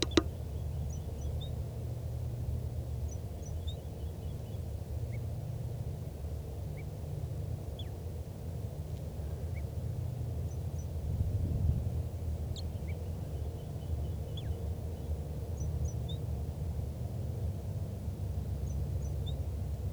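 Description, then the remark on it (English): A wild bird sings softly in short, high chirping phrases that come and go at irregular intervals, faint above a steady low rumble of background noise. “Recording again that wild bird in soft song.”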